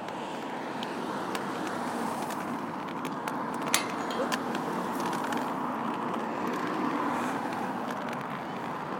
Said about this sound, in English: Right. We're out in the traffic now.